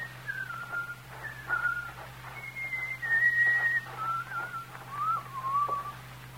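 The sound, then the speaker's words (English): A man whistles a lilting tune in short melodic phrases that rise and fall, clear, over a faint steady low hum with no talking. “have that good-for-nothing loafer put in jail where he can whistle to his heart's content.”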